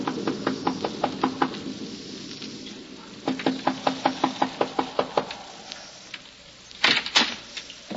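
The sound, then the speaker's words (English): Two bursts of rapid knocking by a traveler on the wooden door of the Wharton farmhouse in Westchester County in the early evening as a storm approaches, each a run of about six or seven sharp raps, followed by a couple of heavier thuds, with a steady background hiss throughout. “He knocks at the door.”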